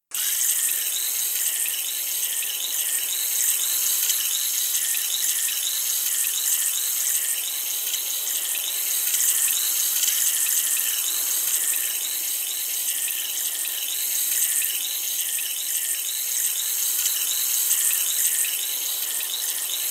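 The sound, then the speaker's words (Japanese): Water rinsing during ear washing, with foam bubbles touching the ear: a steady, bright, fizzing wash of sound with faint crackles and bubbly ticks, holding constant throughout with no voices. “それでは、お耳の洗浄を始めていきます。”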